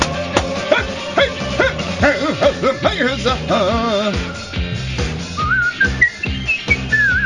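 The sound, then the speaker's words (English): A person whistles, starting with a few breathy, faltering notes before clearer, higher pitches slide upward, over a busy background of overlapping sounds. “Oh, bit dry on the whistle there.”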